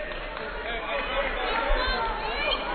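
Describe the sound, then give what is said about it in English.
A steady, even murmur of crowd chatter fills John Lance Arena during a basketball game between Northwest and Pittsburgh State, many overlapping voices blending into a continuous hubbub with no single speaker standing out and no sharp peaks. “Pretty good crowd on hand here at John Lance Arena, considering students not back in session here.”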